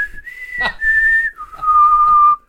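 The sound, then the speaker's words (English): A person whistles a clear two-note signal: a steady higher tone held for about a second, then a long lower tone, loud with a brief click early on; a signal whistle given as ambushers pop out of trees in a TV show scene. “It's like, they had to whistle three times for each fucking guy, each magician popping out of a tree.”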